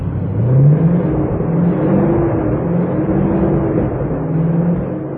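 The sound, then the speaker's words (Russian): The engine of a newly assembled ZIL-130 truck, the millionth built, runs loud at the factory, its pitch climbing and dropping through several revs over a steady low rumble, with no voices. “Голос нового автомобиля.”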